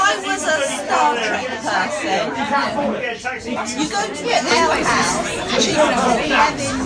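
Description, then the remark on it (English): A steady hubbub of many overlapping voices chattering at once in a bingo hall, dense and continuous throughout, with occasional brief chuckles rising out of the crowd noise. “Hi listeners, we're at the bingo. Well, you can probably hear that.”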